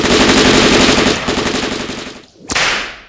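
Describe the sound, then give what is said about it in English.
Rapid bursts of automatic gunfire rattle loudly, thinning out toward a brief lull before one more sharp, cracking shot rings out near the end. No one speaks. “Shoot them!”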